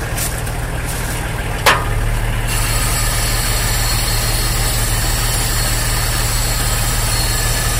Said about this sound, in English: This is a beam coming down from the machine, which is then turned 90 degrees to latch onto the railway track. It then carries on up and lifts the machine off the line.